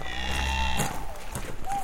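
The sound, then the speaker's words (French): A cow gives a low, drawn-out moo in the first half, then farmyard ambience continues with scattered livestock noises at moderate volume, at 6 a.m. as the cows are being tended on a farm. “Aujourd'hui, 3e épisode, il est tôt et il faut s'occuper des vaches.”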